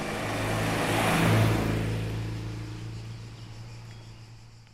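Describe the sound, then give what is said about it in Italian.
A small Citroën 2CV's engine drones steadily as it speeds along hairpin bends uphill and downhill on a wild coastal road above the sea, swelling to a louder, rougher peak early on before gradually easing off and fading as it drives on. No voices are heard. “Scendiamo in velocità tra tornanti in salita e poi di nuovo in discesa.”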